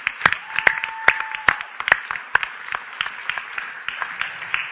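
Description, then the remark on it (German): Several hands clapping for whoever made a poster bearing a slogan, in a loose, uneven patter, with a few sharper, louder claps standing out at the start before it settles into a steadier, softer round of applause. “Und der Slogan, der vorne an diesem wahnsinns coolen Plakat steht, ich weiß nicht, wer es gemacht hat, aber ich klatsche auf jeden Fall mal dafür.”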